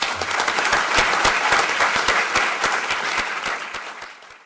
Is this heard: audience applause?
yes